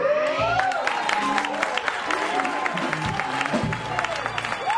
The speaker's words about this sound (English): You can hear the audience responding to that with a combination of disbelief and appreciation and maybe some shock during that performance.